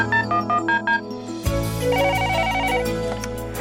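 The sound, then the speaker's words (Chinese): A telephone rings with a quick run of about five short, bright electronic pulses as a listener's call comes in to a prayer hotline, then abruptly gives way to a fuller burst of music. “线连线，心连心，借电话交流，彼此守望祷告。”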